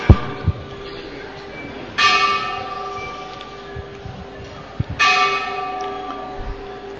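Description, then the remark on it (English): A bell rings out twice, about three seconds apart, each strike loud and clear with a long shimmering decay that lingers over faint background noise. “Final, before the bell has rang to its end.”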